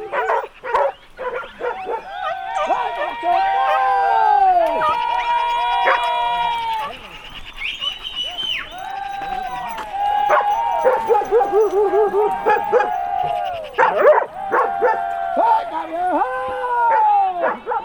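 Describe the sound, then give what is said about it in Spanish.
A pack of trained hounds barks and bays excitedly while chasing a fleeing wild boar through the scrub at full speed, many overlapping yelps and drawn-out howling cries running continuously and fairly loud. “La reala de sabuesos va batiendo el monte a toda velocidad.”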